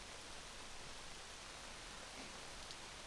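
Steady rain falls in a soft, continuous hiss with no breaks or individual drops standing out. It stays fairly quiet and even throughout, and no one speaks.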